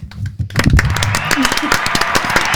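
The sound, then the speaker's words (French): A burst of brisk clapping as students applaud themselves, dense and steady, keeps going for about two seconds at a fairly loud level, with a few voices briefly audible beneath it at the start. “Je pense que d'ailleurs qu'on peut même s'applaudir.”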